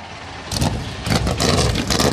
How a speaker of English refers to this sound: And just listen to that crowd, and then the 20 engines come to life over top of that. We are ready to go. North Wilkesboro Speedway in the 40th running of the NASCAR All-Star Race.